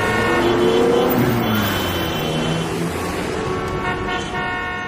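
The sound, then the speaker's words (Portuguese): Busy city street traffic with steady engine rumble and several car horns honking, some sustained, some short, over a dense, continuous roar of passing vehicles. “Nos centros urbanos, asfalto, grandes construções, carros por toda a parte.”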